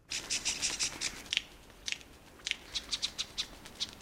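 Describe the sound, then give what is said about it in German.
A male superb lyrebird gives rapid, harsh, high-pitched chips and rasping notes during its courtship display. They repeat in uneven bursts with brief pauses, mimicking the alarm calls of various bird species. Fairly loud, with no voices. “Und für die Vogelweibchenohren, da klingt es sogar bedrohlich, weil der raffinierte Vogel, der macht da die Alarmrufe verschiedener Vogelarten nach.”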